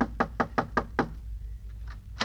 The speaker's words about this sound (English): Hey, Curtin, this must be the house where the old prospector lives. Yeah, knock on the door. Okay.